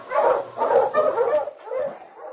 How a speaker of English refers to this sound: Mush you, Huskies!